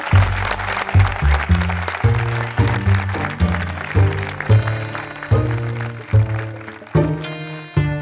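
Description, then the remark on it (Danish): Steady audience applause thanking the production team fills the whole stretch, a dense crackle of clapping heard alongside a rhythmic musical backing with a pulsing bass line; no one speaks. “Og hjælp mig lige med at sige ordentligt tak til det her stjernespækket hold.”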